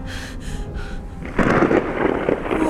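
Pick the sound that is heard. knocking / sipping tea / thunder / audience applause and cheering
thunder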